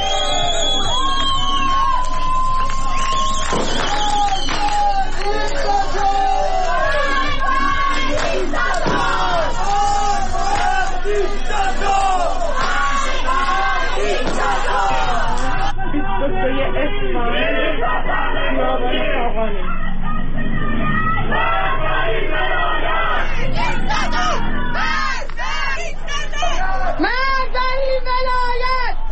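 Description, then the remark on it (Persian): A large crowd of protesters in Iran, marching during the Chaharshanbe Suri festivities against the Islamic Republic, shouts and chants slogans loudly and continuously, voices overlapping in rhythmic bursts with scattered whoops and yells rising above the roar. “بنابر گزارش ها، شهروندان معترض از جمله مبادرت به راهپیمایی، سر دادن شعار و همینطور به آتش کشیدن تصاویری از خمینی و خامنه‌ای کردند.”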